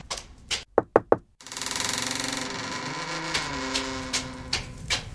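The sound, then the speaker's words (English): Several sharp, loud knocks rap on the door of a flat in St John's Wood in quick succession, then give way to a steady, droning hum with faint clicks that continues to the end. No one speaks. “At the moment, she's telling someone's future, so she's not answering the door.”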